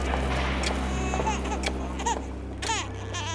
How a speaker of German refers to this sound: Hat das Baby Hunger? Will es die Brust? Will es herumgetragen werden? Tut etwas weh? Irgendetwas ist da, was herausgeschrien werden muss. Spontan und hemmungslos.